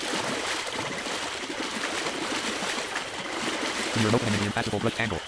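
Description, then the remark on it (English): Steady sloshing and splashing of shallow swamp water as someone wades forward through it, with a voice briefly rising over it toward the end. “You see I'm in shallow water now.”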